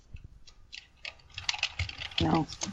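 Rapid, irregular clicks of fingers typing on a computer keyboard, moderately loud, with a brief low murmur of voice partway through.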